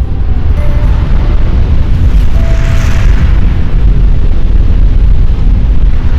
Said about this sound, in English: High up in the mountains, a wall of snow gives way.